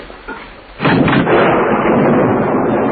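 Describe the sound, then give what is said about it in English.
A heavy door shuts with a sudden loud, deep boom after a quiet moment, its low rumble carrying on for about two seconds. No one speaks. “One moment, please, while I close the door.”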